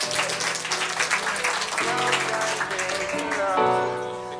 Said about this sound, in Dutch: Van de OBS de Tandem. En waar zit die? In Oud-Beijerland. Wauw. Nou, ik zou zeggen nogmaals een heel hartelijk applaus voor jullie zelf. Want dit is fantastisch.